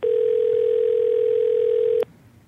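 A single steady electronic ringing tone of an outgoing phone call sounds loud for about two seconds, then cuts off abruptly, leaving faint background noise.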